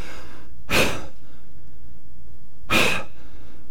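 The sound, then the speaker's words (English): Two loud, breathy exhalations spaced about two seconds apart, a person mimicking heavy panting with quiet pauses between. “And you're huffing and puffing. You're panting.”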